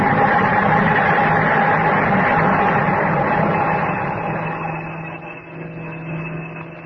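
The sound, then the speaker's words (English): Busy street traffic roars in a dense, continuous wash of engine noise and rumble, loud at first, then easing slightly and thinning toward the end. No one speaks. “At that same moment, the enormous commerce of our briskly modern world roared and thundered in the street.”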